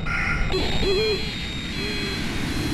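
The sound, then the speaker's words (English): A recorded bird-of-prey call plays automatically from a bird-deterrent loudspeaker in the grassy areas between tarmacs: two low, wavering owl-like hoots about a second apart, moderately loud over steady outdoor noise and a faint high electronic whine. “Sometimes the wailers will fool me and I'll look around looking for whatever bird's making that sound and I realize it's just the speakers.”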